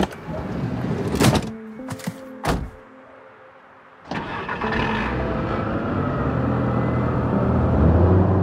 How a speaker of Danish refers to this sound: Skal jeg lukke døren? Ja, det må du egentlig gerne.